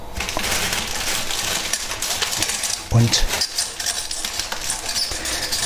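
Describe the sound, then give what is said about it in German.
Glass water bottles clink and rattle against each other as they are packed into a fridge, in a busy stream of bright, sharp knocks, with one louder clunk midway and a brief spoken word. “Ja, das ist ein ekliges Geräusch, oder wenn 2 Flaschen aneinander.”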